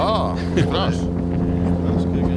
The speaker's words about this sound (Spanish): ¿Esto es un roncador? Sí, te creo. Se llama un pez tambor. Sí, bien, los nombres son muy onomatopélicos o acompañan el sonido. Pero fijaros qué variedad de sonidos. Eso no es un barco, eso es un tambor, un pez tambor.